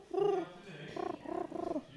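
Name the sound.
voice imitating pigeon cooing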